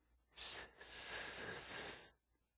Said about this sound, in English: So when I feel like I'm going to have trouble saying a word, I try to sneak up on it by making a hissing noise.